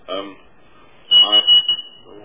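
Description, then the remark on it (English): A steady, high-pitched bell or buzzer tone rings for just over a second, starting partway through and sounding continuously under a person's speech. “Sounds like the bell ringer doesn't like me.”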